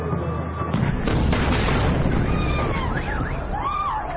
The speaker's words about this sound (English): A glimpse of what it's like when an Israeli missile hits just meters from your home. Every day and every night since this war began, this is what the men, women, and children here are seeing and feeling over and over again.